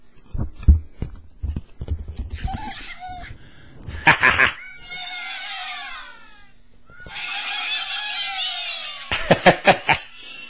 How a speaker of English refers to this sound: Yes! Angry birds that make noise! How cool is that?